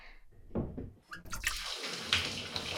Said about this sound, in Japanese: シャワーの温度は、 よし。